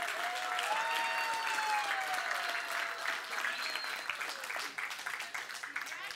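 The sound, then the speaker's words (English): An audience claps steadily and loudly for several seconds, a dense crackling wash of applause with a few high cheering voices rising over it before it gradually thins out, applauding the announcement that the speaker's son and daughter-in-law had a baby girl. “Thank you for clapping.”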